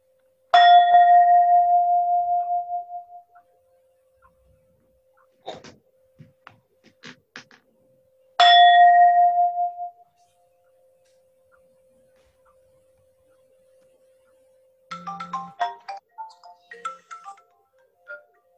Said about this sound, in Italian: Facciamo il suono di campane. Vediamo se si sente bene.